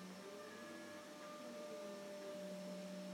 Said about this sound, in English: You have to leave it and ventilate it for half an hour after you've sprayed it, and then you're supposed to hoover. So that's what he's doing now.